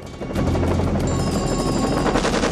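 Rapid bursts of automatic gunfire from a gunman on a helicopter laying down covering fire rattle over the loud, steady drone of the helicopter, the two sounds layered continuously with no voices.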